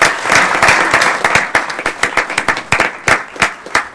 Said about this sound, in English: Round of applause.